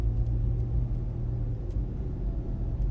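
A steady, low vehicle rumble fills the scene at a gas station, like a car idling or rolling slowly past, with faint outdoor ambience and no voices.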